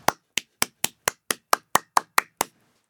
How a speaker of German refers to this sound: Nur ganz einfach. Mit unserem eigenen Körper. Ich kann klatschen.